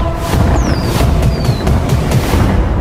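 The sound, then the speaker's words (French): Fireworks explode in a dense, continuous rumble of booms and crackles, with a couple of thin whistling streaks cutting through high above. The barrage is loud and steady, with no voices. “C'est des feux d'artifice ?”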